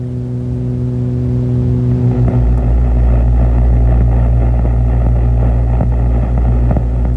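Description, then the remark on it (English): Radio waves from outer space, picked up by an antenna, passed to a receiver and amplified in a laboratory at the National Radio Astronomy Observatory: a loud, steady droning hum with layered buzzing tones that swells into a thicker, rumbling roar after about two seconds, with no voices. “Now let's be very still and we'll listen again to how these radio waves sound.”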